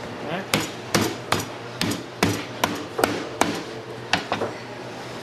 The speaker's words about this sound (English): So for the style of roasting I'm going to do, I need to make this goat lie flat. So what I'm going to have to do is break down some of the backbone in the ribs and spread them apart so I can get a flat goat.